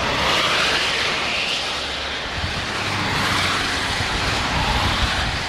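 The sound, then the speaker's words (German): Steady, loud roar of cars, some with Zurich, Lucerne and Aargau plates and some with German plates, streaming into a new road tunnel near Lungern, Switzerland: a broad rushing whoosh that swells and fades, with a low engine rumble underneath and no voices. “Auto mit Zürcher, Luzerner und Aargauer Nummern und sogar auch Sättig mit deutschen Kennzeichen verschwindet im schwarzen Loch.”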